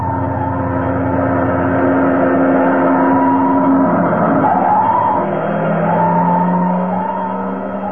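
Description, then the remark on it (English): Fire engines roll up and stop a block away at a burning building, their heavy engines rumbling loudly while a long, high squealing whine bends in pitch midway, like brakes hissing and screeching as the trucks slow down. “Fire engines.”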